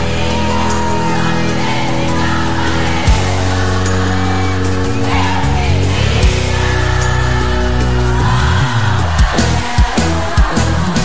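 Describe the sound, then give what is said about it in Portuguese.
A large concert crowd in São Paulo, with the women called on to sing, sings together in a loud, steady mass of voices, with sustained melodic tones and occasional shouts rising above the chorus throughout. “Agora quero ouvir as mulheres apaixonadas de São Paulo cantando.”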